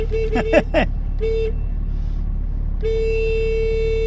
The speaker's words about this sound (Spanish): Así suena el claxon de un 600. Así suena, sí señora.